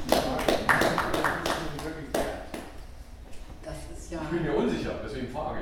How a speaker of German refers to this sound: Also das ist ein kleiner Applaus.